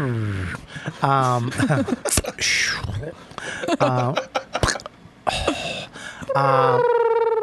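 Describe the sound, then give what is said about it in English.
A voice imitates the Jetsons cartoon flying car, repeating bursts of warbling, gliding tones that swoop up and down, ending in a longer sustained whirring hum, fairly loud. “that's the Jetsons vehicle.”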